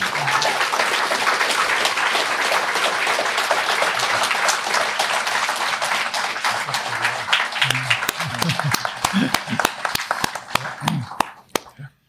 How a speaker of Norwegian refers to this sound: Dere har alle tre gjort en utrolig god jobb, og jeg bare synes at publikum... Jeg burde gi de den applausen de fortjener.